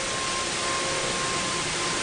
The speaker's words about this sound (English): So what happens when you take our old friend the drill and match it with pink? Here goes.